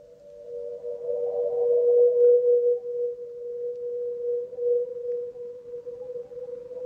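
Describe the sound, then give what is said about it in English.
A sustained, steady ringing tone like an Aeolian harp as wind blows through scaffolding in a village at night, holding one mid pitch while gently swelling and fading in loudness, with a faint airy rumble beneath and no voices. “the wind was blowing through that scaffolding, creating a kind of Aeolian harp, and the sound was ringing out across the village”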